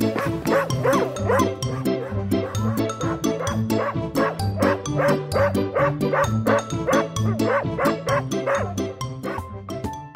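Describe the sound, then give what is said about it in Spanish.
A female dog, Bonnie, barks and yips in a rapid, steady stream, loud, with growly undertones running between the barks for about ten seconds, growling at players after interrupting a family football game at a school family day, with a piece of chicken; no voices. “Les está gruñendo a los jugadores porque cree que le van a quitar el pollo.”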